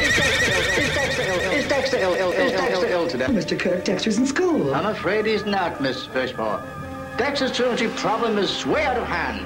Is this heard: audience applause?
no